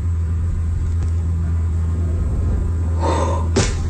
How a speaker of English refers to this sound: This is the sound as someone was filming this from across the street. Damn, that's hitting the car from across the street. What the A brand new Corvette. She is wailing on it.